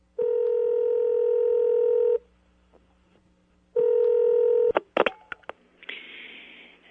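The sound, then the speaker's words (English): A steady, loud telephone dial tone hums for two seconds, stops, then returns before being broken by a quick burst of dialing clicks and beeps, ending in a faint line hiss. “But in between those two events, I do believe there was time for a certain phone call.”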